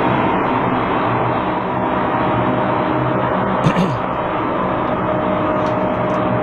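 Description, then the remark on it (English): A steady, loud roar of an airplane waiting at the airport before takeoff, heard from the gangway, its engine drone filling the whole recording without letup, with a brief brighter hiss rising near the middle. “Right now, still, I'm in the gangway. We're about ready to take off.”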